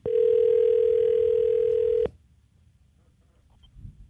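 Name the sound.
telephone dialing a call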